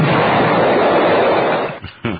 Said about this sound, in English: Lots of bombs and explosions.